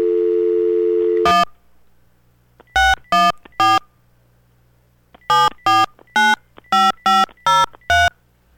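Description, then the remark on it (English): A steady dial tone from an old telephone hums briefly, then cuts off as touch-tone keys are pressed: one beep, a quick trio, then a run of seven crisp, evenly spaced tones, with no voices. “We'll just turn the old phone on here.”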